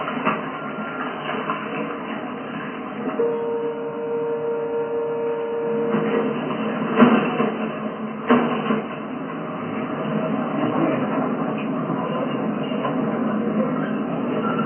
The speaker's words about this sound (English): Subway trains here, but this is what they're like.